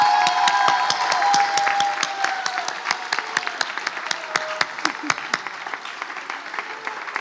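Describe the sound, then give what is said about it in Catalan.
A large audience applauds a group in a dense, sustained wash of clapping that gradually thins out, individual claps becoming more distinct toward the end as the applause fades. “Si us plau, un fort aplaudiment per aquest meravellós grup.”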